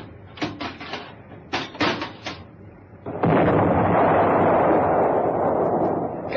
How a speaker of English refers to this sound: Captain, please stop you making my poor boat rock. She'll fall apart with your big cannon firing from the deck like this.